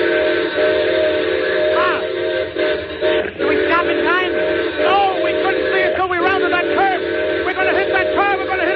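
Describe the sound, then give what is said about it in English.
A steam train carrying a load of gold blows its whistle loudly at a car stalled at the crossing, holding long, wavering chord-like tones almost without a break for around nine seconds, with no voices over it. “Well, the whistle, quick, quick.”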